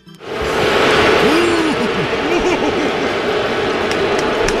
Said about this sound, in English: Yeah, it may have been limited seating last night, but the New York crowd really let them hear it. This is what it sounded like when the Astros, Jose Altuve, actually was announced. And take a listen to the crowd.